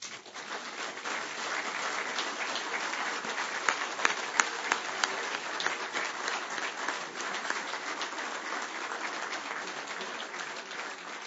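A crowd applauds steadily, many hands clapping in a dense, continuous patter that holds at an even, fairly loud level throughout, with a few sharper individual claps standing out.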